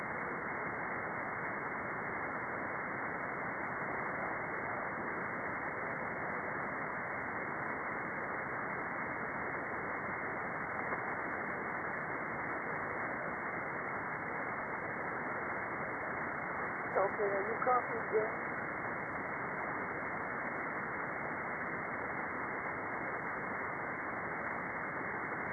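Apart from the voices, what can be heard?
radio static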